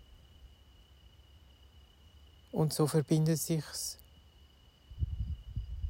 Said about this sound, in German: Hörst Grillen zirpen.